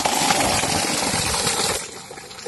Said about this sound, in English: Motor chala de do mein. And you can see the borewell that we have put here, and it's giving water for the people.